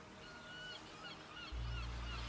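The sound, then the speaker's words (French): Several squawking seagull calls repeat in quick succession over a steady low rumble that grows heavier partway through, like wind or surf. “C'est une superbe mouette, ce magnifique oiseau blanc aux grandes ailes qui vit près de la mer.”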